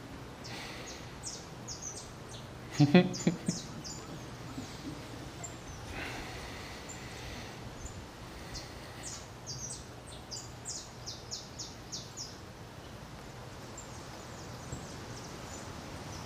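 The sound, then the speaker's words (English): Birds sing and chirp steadily throughout, with many short high calls overlapping over a soft outdoor background, and a brief louder rustle or thump near the start. “You know that the birds are very happy when you listen to their song.”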